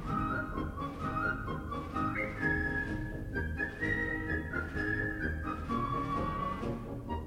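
A full concert band plays a steady, bouncy march while a clear whistled melody rides on top. The whistle sits prominently over the brass and percussion, with no talking.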